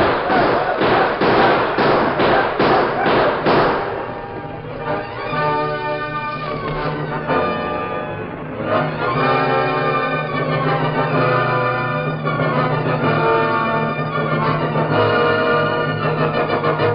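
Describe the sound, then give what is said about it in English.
A rapid volley of about nine loud gunshots fires in steady rhythm over the first few seconds as men break out of a house, going down shooting, then gives way to sustained ringing, music-like tones that carry on to the end. “If any of you go down shooting.”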